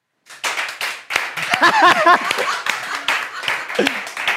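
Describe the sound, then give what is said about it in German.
An audience breaks into steady applause as an audience lifeline vote on whether a banana is in a particular box, many hands clapping in a dense, uneven patter for several seconds, with a few voices calling out and cheering over the middle stretch. “Ja, das ist ein Publikumsjoker. Mal mit Applaus.”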